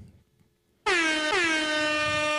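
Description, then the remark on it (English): A loud air horn suddenly blasts after a brief quiet moment, a sustained bright tone that cuts out and immediately sounds again, continuing steadily to the end. “It can only be multiple air horns for me.”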